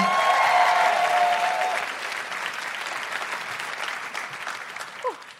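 An audience claps in a dense, steady burst of applause that starts loud and gradually thins out, with a brief cheer or whoop near the end.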